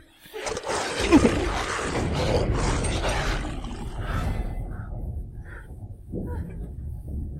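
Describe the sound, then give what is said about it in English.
A deep, rumbling wolf growl starts after a brief pause and continues loud and steady for several seconds, rough and breathy with a low roar underneath, fading slightly toward the end. “It's the wolf, it got horny.”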